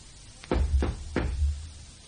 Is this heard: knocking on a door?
yes